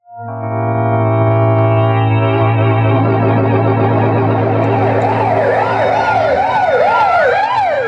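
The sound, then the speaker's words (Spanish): Sirens of two police patrol cars wail loudly over a low engine drone, the rising and falling tones overlapping as the cars slow down while approaching an old building surrounded by a tall metal fence. No one speaks. “Las dos patrullas disminuyen la velocidad conforme se aproximan a un antiguo edificio circundado por alta reja metálica”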